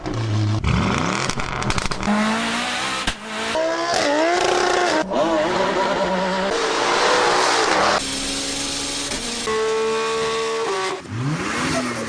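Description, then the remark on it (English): Loud petrol car engines of the kind typical on Australian roads rev and accelerate in quick succession, pitch sweeping up and down with each gear change, several vehicles roaring in a continuous burst of engine noise. “When we think of cars in Australia, we normally think of cars that sound like these.”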